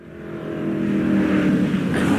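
The engine of a Mercedes-Benz 300 SLR Uhlenhaut Coupé racing car, built on the basis of the 300 SL, revs up, its throaty roar building in pitch and loudness over a couple of seconds and then holding strong, with no voices.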